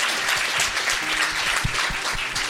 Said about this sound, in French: Applaudissements.